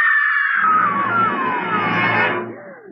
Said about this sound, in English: Did you hear that woman scream? Yes. It came from that parked car.